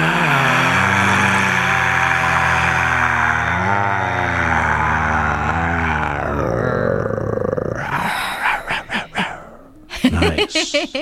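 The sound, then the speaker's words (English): A voice imitates a lion during a lion's breath breathing exercise: a long, forceful exhale carries a low, rumbling growl for about six seconds, then breaks into rough breathy rasps and a few short panting bursts. “You can growl at the end. Isn't that fun? That is fun. One more. Here we go. Breathing in. Here we go. Lion's breath.”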